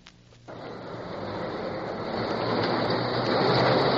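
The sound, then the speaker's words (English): A small underground subway car running between the Senate chamber and the Senate office building starts up and runs, a steady rumbling roar that swells slightly louder as it goes, with a faint rattle over the tracks and no voices. “The busy little subway running underground between the Senate chamber and the Senate office building worked overtime, with heavy loads of senators commuting back and forth between the hearings in the caucus room and the Senate floor.”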